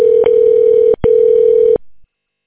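A steady, buzzy phone ringback tone plays loudly in two long bursts split by a brief gap, then cuts off into silence. No voices are heard.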